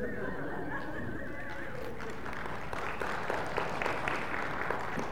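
An audience claps steadily for a second-place finish in the men's 50 to 59 category of a 5K run, a dense patter of many hands that grows fuller after the first couple of seconds, with a faint wavering tone over the start and no one speaking.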